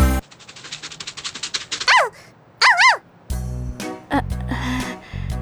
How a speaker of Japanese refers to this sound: 犬？